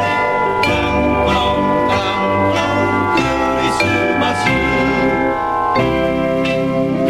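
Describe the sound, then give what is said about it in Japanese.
Several bells ring together in clashing, dissonant tones as part of a piece of music, struck repeatedly in a steady rhythm with long overlapping resonance, loud, with no talking. “めっちゃ鐘の音が不協和音になってる。”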